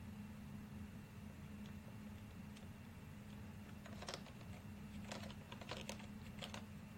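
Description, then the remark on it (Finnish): A handful of crisp keyboard key presses as the Alt and Shift keys are held down together, then a quick cluster of clicks near the end, all over a steady low electrical hum with no talking. “Mutta jos mä haluan käyttää hiirtä, niin mä voin tehdä sillä tavalla, että mä painan altin pohjaan, shiftin pohjaan, siirryn.”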